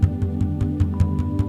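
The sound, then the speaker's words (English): Light drum beats tap out a quick, steady rhythm, about eight soft strikes, each a low, resonant thump over a sustained humming tone, played to demonstrate the drum's tone before a guided vision journey. No one speaks. “So what I'm gonna do, so you can hear it right now, this is the tone of the drum.”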